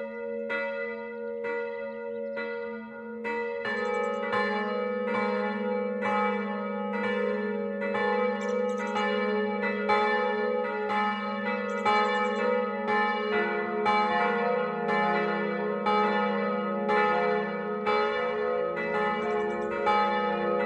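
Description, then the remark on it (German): Several bells of the parish church St. Stephanus in Massing, a late-15th-century Gothic church on a small hill on the right bank of the Rott, ring a steady noon peal at 12 o'clock, their overlapping strikes blending into a full, resonant wash of tone that swells as more bells join, loud with no voices. “Das Mittagsläuten kommt heute aus der Pfarrkirche St. Stephanus in Massing.”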